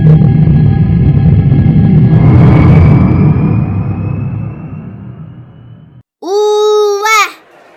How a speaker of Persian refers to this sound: چقدر شلوغه، چقدر مغازه و دکه اینجاست. اونجا به نظرم مغازه های قبیله قریش باشه که از شام و جاهای دیگه پارچه و جنس هایی که تو مکه نیست آوردن تا بفروشن.